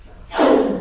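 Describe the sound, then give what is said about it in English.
A single sneeze bursts out after a brief quiet moment, a loud, breathy, noisy blast that lingers for about half a second, with no talking. “Bless you.”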